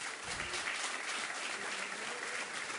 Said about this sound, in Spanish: Vamos a agradecer la presencia de Carlos Fior del Mondo, coordinador del área de deporte y educación y jefe de la misión de la delegación uruguaya. El aplauso para Carlos también.